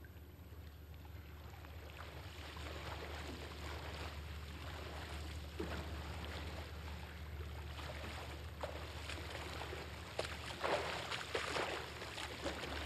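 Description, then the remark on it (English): A voice imitates a motorboat engine: a steady, low rumbling drone that runs continuously for about thirteen seconds, growing rougher with splashy bursts toward the end. “Oh, so you mean I get to make neato motorboat noises?”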